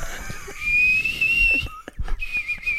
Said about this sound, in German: Dann pfeift sie mal ….